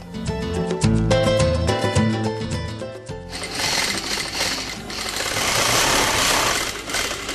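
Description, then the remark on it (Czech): An industrial sewing machine with a much larger, more powerful motor, in a clothing-alteration tailoring shop in Belgrade, runs with a loud motor hum and rapid rhythmic stitching clatter, then shifts into a steadier, rougher whirring noise that continues to the end, with no talking. “To je industrijska mašina koja ima mnogo veći motor, znači mnogo je jača, radi jače stvari, može i tanje stvari, zavisi šta treba, tako se našteluje.”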